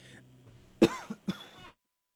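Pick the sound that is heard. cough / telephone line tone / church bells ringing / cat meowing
cough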